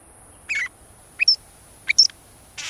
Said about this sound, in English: We're hearing a northern shrike, a robin-sized pale gray bird with jet-black mask and wing bars. This quirky and metallic song, which it sings even in winter, belies a rather bloodthirsty feeding habit.